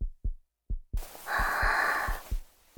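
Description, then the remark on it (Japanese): A loud, fast human heartbeat thumps in quick lub-dub pairs, deep and muffled, with a soft breathy exhale drifting over the middle beats. “感じる？私の鼓動。大きくて、すごく速い。”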